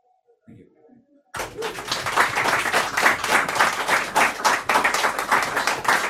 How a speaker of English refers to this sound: Just as a disclaimer, them claps are for Brendan Behan, they're not for me, all right? Just in case he comes and haunts me or anything like that. Thanks for clapping for Brendan Behan, all right?